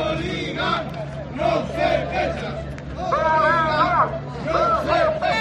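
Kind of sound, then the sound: crowd, demonstrators chanting slogans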